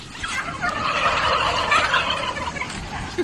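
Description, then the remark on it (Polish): A dense chorus of turkeys gobbling continuously for the whole stretch, many birds calling at once on a crowded turkey farm. “Na tym filmie widzimy przede wszystkim kopanie zwierząt, indyków stłuczonych na fermie.”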